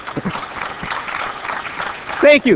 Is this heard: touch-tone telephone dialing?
no